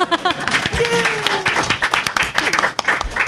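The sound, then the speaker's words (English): An audience claps steadily throughout, a dense, continuous patter of many hands at moderate loudness, with a few voices and cheers mixed into the applause. “You can applaud now.”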